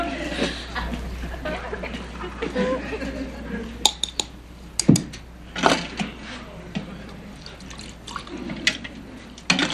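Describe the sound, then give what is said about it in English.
Water drips and trickles against a steady background hiss, with scattered sharp drops landing at irregular intervals and faint muffled voices underneath. “Focus, focus, make this water go out of focus.”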